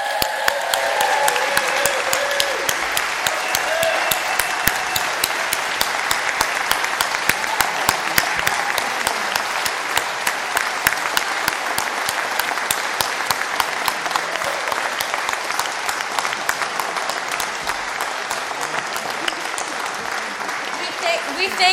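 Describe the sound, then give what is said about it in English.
Sustained, loud applause from a large crowd for the 2015 bridging youth of a youth program, a dense steady patter of many hands clapping for about twenty seconds, with faint voices mixed in early on. “Please give a round of applause to our bridging youth of 2015.”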